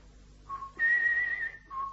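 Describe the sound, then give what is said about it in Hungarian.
A person whistles a short tune: a brief lower note, then a long, higher held tone that wavers slightly and slides down, followed by another low note. No one speaks. “Tehát ha beszélsz, akkor nem fütyülsz.”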